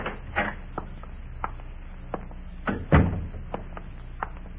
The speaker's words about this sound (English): All right. Stand out there and knock.